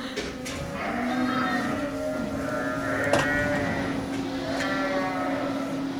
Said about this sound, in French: Voilà, je m'apprête à sortir des airs, je passe au milieu des brebis, qui évidemment s'enfuient en courant.